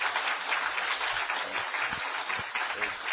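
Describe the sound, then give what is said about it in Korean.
A crowd of people at a church fellowship group meeting clapping steadily for the outgoing leader after an election, a dense, sustained wash of applause for several seconds without a break. “박수 한번 부탁드리겠습니다.”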